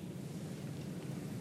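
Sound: water splashing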